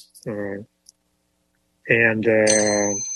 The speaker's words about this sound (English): Then In the Heat of the Night. Yes, yeah. That's one of them. Give yourself a bell on that one.